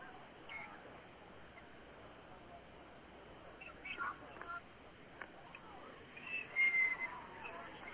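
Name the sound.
referee's whistle blowing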